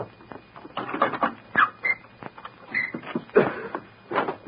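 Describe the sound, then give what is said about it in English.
A small dog yaps in quick, irregular bursts, several sharp high-pitched barks, mixed with light scuffling and squeaky noises. “Stop the little dog!”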